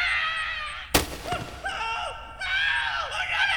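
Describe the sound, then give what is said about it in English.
A person screams in long, high-pitched, wavering wails, loud. A sharp, noisy burst cuts in about a second in, then the screaming swoops and continues. “Screaming's not going to help you”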